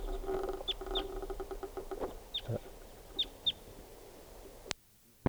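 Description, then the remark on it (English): A wild crossbill calls, around five short, high, sharp chips in loose pairs over a low steady rumble, ending with a click and then silence. “I hear pair birds. A lot of crossbills around here.”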